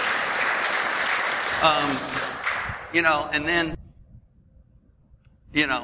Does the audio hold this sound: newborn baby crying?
no